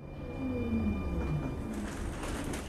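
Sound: subway train ride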